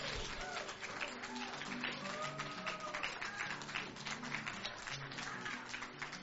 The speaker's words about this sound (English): Come on, clap your hand one more time to Jesus.